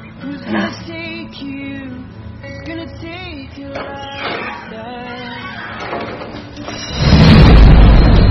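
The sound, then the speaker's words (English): Soft tonal music plays for several seconds, then a loud, deep rumble of thunder from a storm outside breaks in and rolls on through the last second, swamping the low end. “With the storm outside and the candlelight.”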